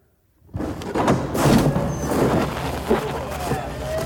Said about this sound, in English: All right. I think this is it. I'm going to have him open up the door.